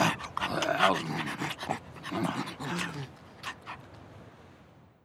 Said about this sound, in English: After the sled dog ride, we stop to feed the dogs. They're very hungry.